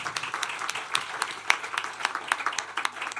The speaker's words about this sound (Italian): Un applauso. Grazie.